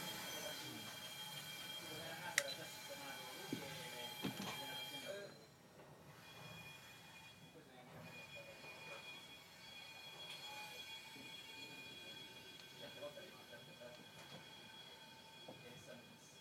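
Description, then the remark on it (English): Railway carriages being shunted and uncoupled, with part of the train left on a ferry. They rumble and grind along the track with high metallic wheel squeal and a couple of sharp clanks, the noise easing to a steadier, quieter rolling after about five seconds. “Possible take two guess on this is that what they did was they took the whole train back, pushed on the front bit of it, uncoupled it, and then pulled us backwards again, leaving that bit on the ferry, and now they'll push us back the other way”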